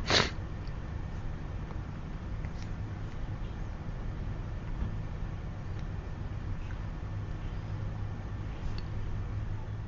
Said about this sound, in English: Yeah, sorry guys. I'm sniffling because I've got some seasonal allergies.